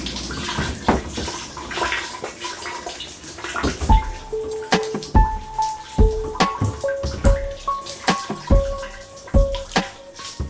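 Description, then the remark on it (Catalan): Shower water trickles and drips steadily into a metal pot, collected for reuse by a homemade system during a shower at a base simulating a crewed mission to another planet; irregular plinks and splashes ring out against a low running patter; no one speaks. “Com sentiu, ens hem de dutxar gota a gota.”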